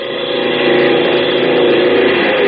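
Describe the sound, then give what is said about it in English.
A propeller plane engine roars steadily as plane number 4 takes off for tactical maneuvers, a loud, sustained droning hum that swells slightly and holds without a break, with no voices. “Plane number 4, taking off for tactical maneuvers.”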